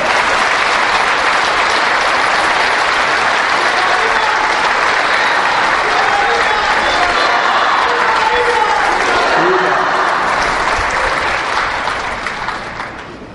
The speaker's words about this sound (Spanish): Creo que hoy no le hemos dado un aplauso a la Santísima Virgen María.